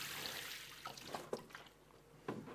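Water pours and splashes steadily onto a surface, with broad hissing spatter and a few brief droplet plinks and gurgles, close by and moderately loud, no voices.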